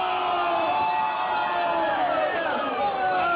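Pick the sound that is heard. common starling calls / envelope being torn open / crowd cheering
crowd cheering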